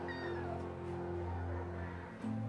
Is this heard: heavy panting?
no